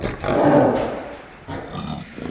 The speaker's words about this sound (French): Le son est en binaural, donc les lions sont en relief.